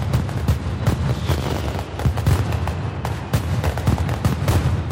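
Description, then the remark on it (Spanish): A relentless mascletà firecracker barrage at the Fallas festival in Valencia, Spain: dense rapid-fire bangs blending into a continuous roaring rattle with sharper booms punching through, loud, no voices. “Este sonido es muy conocido en toda España, la mascletá de las Fallas de Valencia, fuegos artificiales”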